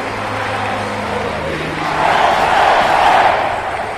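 A large crowd gives a final ovation as a car door closes, roaring and cheering in a dense, continuous wash of noise that swells louder midway through, with a low engine-like hum underneath at the start.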